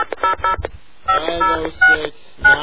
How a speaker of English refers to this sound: AT&T. Please dial the area code and number you are calling.